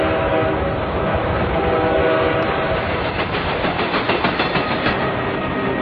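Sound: train pulling away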